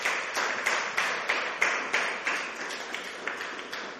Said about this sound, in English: Give the worship team a big hand clap.